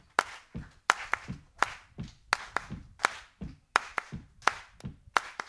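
Crisp hand claps repeat in a steady rhythm in the Gullah clap, with dull low foot stomps falling between them on the offbeat. Fairly loud, with no voices.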